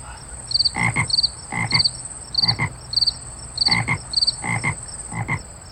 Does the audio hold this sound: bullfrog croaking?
yes